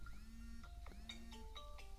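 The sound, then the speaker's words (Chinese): A phone ringtone for an incoming call late at night plays a short electronic melody of clear, sustained tones stepping up and down in pitch over a low background hum, with no one talking. “他这么晚给你打电话干嘛？”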